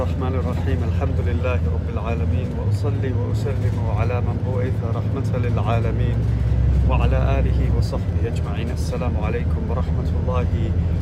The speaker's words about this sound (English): I'm on the bus going to Hajj on this very special journey, the journey of Hajj.